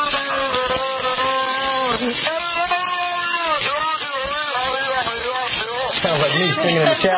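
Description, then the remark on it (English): An enclosed beluga whale in a tank mimicking a human conversation held near it, recorded in the tank: a steady stream of warbling, voice-like tones with rising and falling pitch, muffled and unbroken for several seconds, resembling garbled speech without clear words. “And they were enclosed, and then somebody was running a recording of what was going on in the tank, and this is a bit of mimicry from the whale.”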